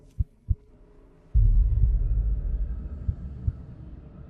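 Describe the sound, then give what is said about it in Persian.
A mother mouse's slow heartbeat thumps low and deep as she stays still and slows it to go silent, a pair of muffled beats, then a heavy rumbling swell underneath before two more soft beats land after a long pause. “ثابت میمونه و ضربان قلبشو کاهش میده تا بی صدا بشه.”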